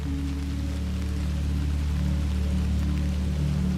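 Steady, soft rain patters continuously on a soft, mossy path, a dense even drumming of drops with a low, constant hum beneath it and no voices.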